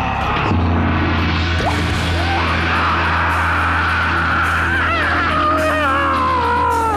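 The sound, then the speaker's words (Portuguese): A man screams and wails as if in pain after having his legs cut off. His loud, strained voice rises and wavers continuously for several seconds over a steady low hum. “Pô, rapaz, tá gritando por quê?”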